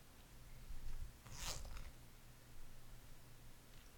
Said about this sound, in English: Belt's already off. You should be able to manage the zipper and button with your mouth. Come on, baby. I know you can do it. That's it. Now the zipper.